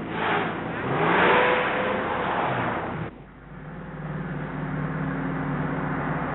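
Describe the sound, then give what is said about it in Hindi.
Jafar's car engine revs loudly for a few seconds, then drops abruptly into a steadier, lower running hum as the vehicle pulls away. No one speaks. “जाफर और उसकी गाड़ी आपकी खिदमत के लिए हाजिर है।”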